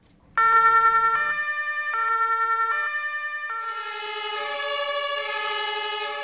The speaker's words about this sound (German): Wer ist es? Die Polizei, die Feuerwehr oder die Sanität? Das hier, das sind zwei Feuerwehrautos. Aber es hätte auch ein Polizei- oder ein Sanitätsauto sein.